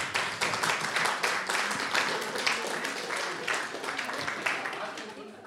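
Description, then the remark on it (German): Steady applause from a crowd, many hands clapping in a dense, continuous patter that holds at an even, fairly loud level for several seconds before easing slightly at the end. The applause is for everyone at a shared celebration, in thanks for the food they brought and for the music. “Dazu vielleicht auch einen kleinen Applaus an alle.”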